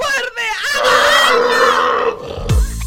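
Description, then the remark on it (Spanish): A loud pig-like grunting squeal, drawn out for about two seconds, apparently a voice imitating a pig, ending in a brief low rumble. “¡El cerdo! ¡Es el cerdo!”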